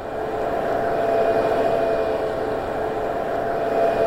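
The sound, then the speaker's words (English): A simulated mock-up by Jaguar of a street full of I-Pace electric cars: a steady, dense wash of synthetic electric-vehicle hums layered together, like many quiet cars whirring along at once, with sustained tonal drones and no talking. “I mean, they played me a mock-up they had made of what a whole street full of their new, of their I-Pace cars would sound like.”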